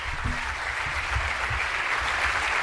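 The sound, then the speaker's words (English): A crowd claps and cheers in a steady, dense wash of applause that holds at an even loudness for the whole stretch, with no single voice standing out. “Oh, some cheering.”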